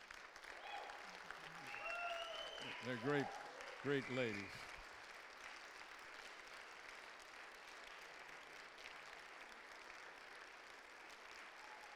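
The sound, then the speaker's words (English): An audience stands and applauds its pastors, who face them at the front, as a clap offering unto the Lord. It is a dense wash of many hands clapping that fills the room and continues for the whole stretch, with a man's voice briefly speaking over the start. “And I want you to stand and give them a clap offering unto the Lord.”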